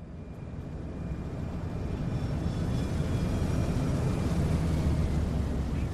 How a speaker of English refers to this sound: On May 1st, 2001, a plane flying out of Singapore touched down at Narita International Airport outside of Tokyo, Japan.